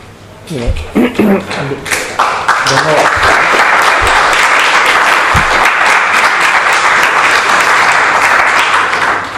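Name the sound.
spontaneous audience applause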